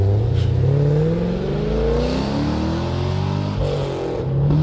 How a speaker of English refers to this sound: Let me see what happens when he takes off. Go from the beginning when he takes off. God, listen to it. Yeah, it's a great engine that GM sells.